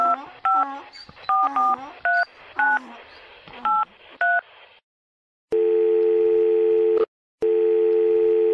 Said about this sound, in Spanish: Ajá, pero ¿por qué no llamamos al número ese para ver qué es lo que es? Sí, aquí tengo celular con minutos. Vamos a marcar de una.